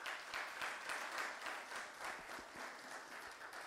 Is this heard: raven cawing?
no